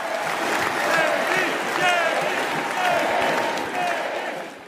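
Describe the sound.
A large crowd of delegates at the Republican Party convention roars and applauds continuously, chanting Vance's name in repeated waves over the dense wash of cheering as his nomination is made official.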